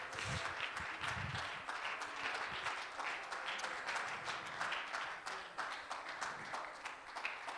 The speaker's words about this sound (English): One more time, can you applaud the Lord for his goodness?